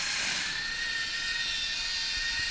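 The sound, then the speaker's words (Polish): Steady high-pitched mechanical whirring of small motors, continuous, as a children's programmable toy robot walks, steered from a control cube or a phone, with no voices. “Robot chodzi, wygląda fajnie, i...”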